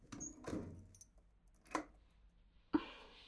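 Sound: keys jangling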